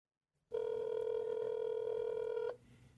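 The ringback tone of a phone call placed to a Bachelor producer sounds for about two seconds, a clear, loud electronic hum with harmonics, then cuts off abruptly, leaving faint background noise.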